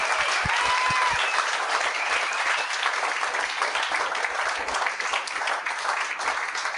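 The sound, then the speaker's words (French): Sustained audience applause welcoming a host's two guests onto a show fills the whole stretch, a dense, steady wash of many hands clapping at an even loudness, with a few sharper claps and faint cheers mixed in. “Mesdames et messieurs, bonne main d'applaudissement pour”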